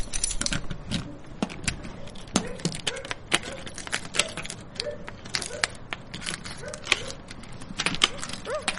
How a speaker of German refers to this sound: Schaut mal, ich hab den Schlüssel noch rechtzeitig greifen können. Los, probieren wir, ob er in die Tür passt.